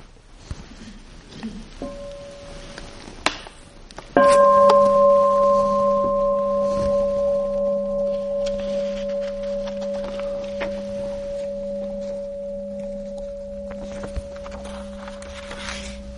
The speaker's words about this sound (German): Ja, vielleicht hören wir zu Anfang nochmal eine Glocke.